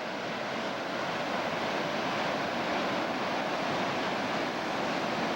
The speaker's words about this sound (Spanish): No os perdáis la cascada de las castañuelas, porque si cerráis los ojos delante de ella, podéis escuchar el sonido del mar. ¿Lo oyes?